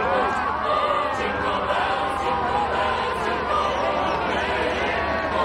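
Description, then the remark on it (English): A large crowd of people talks all at once as a van carrying carolers passes, many overlapping voices blending into a dense, steady babble that holds at an even level throughout, with no single speaker standing out. “The carol van passes crowds of people.”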